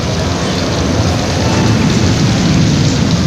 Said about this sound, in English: Hey, if you think really hard, maybe we can stop this rain.